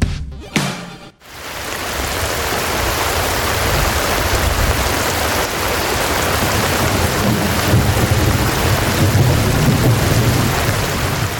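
Heavy rain pours down steadily and loudly, a dense hiss that fills the scene, with a deep thunder rumble rolling underneath. A brief sound and a moment of quiet come just before it begins.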